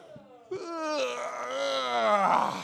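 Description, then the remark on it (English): Several people in an audience yawn aloud together on cue after a count of three, their long drawn-out, groaning voices overlapping and swelling for a couple of seconds, fairly loud, with no speech. “All right, let's all do it on the count of three. Let's yawn.”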